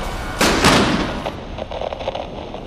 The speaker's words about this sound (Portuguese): Os tiros pararam. O que aconteceu? Será que todos se mataram?